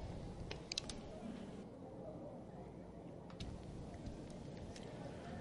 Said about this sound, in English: Rain continuing to fall here at Atrium Health Ballpark.